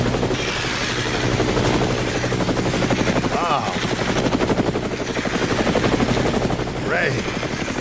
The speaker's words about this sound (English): That is Johnny Manziel's search helicopter. Is that, yeah. That's Johnny Manziel's helicopter.